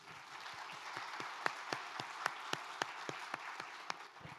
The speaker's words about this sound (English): Can we just give them another round of applause?